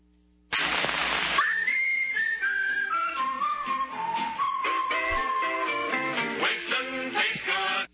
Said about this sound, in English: Is this the sound inside your head when you're working? Is that like a whistle while you work kind of a thing?